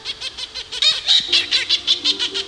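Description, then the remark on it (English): Seabirds call rapidly and repeatedly around a colony on a volcano, a dense, chattering run of harsh, pulsing cries that overlap one another, with no talking. “The relief and vindication of having gone to all that effort and now birds were present and calling around the colony was such a thrill and a rush.”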